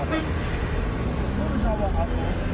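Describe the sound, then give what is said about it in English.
Dense, steady roar of road traffic in Beirut, Lebanon, on the Damascus Road towards Baalbek, with engines rumbling and short car horn toots sounding over the din, plus indistinct voices mixed into the noise. “The problem isn't Israeli dive bombers or hooded terrorists, it's the traffic.”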